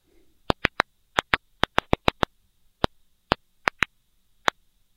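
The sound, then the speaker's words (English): Sounds made by plants deprived of water, normally inaudible to humans, downsampled by researchers into audible range: a series of sharp, dry clicks, about fifteen, arriving in an irregular rhythm with uneven gaps, like scattered ticks or popping, with no voices. “So even though the sounds are normally not something we can hear, the researchers, they downsampled this sound to a range we can hear.”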